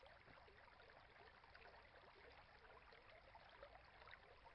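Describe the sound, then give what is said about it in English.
A gently flowing stream burbles and trickles steadily, a soft continuous wash of water with faint bubbling detail, heard alone. “body, your arms, your legs, your head and shoulders gently dissipate into the liquidy, watery flow as you become one with the serenely moving stream.”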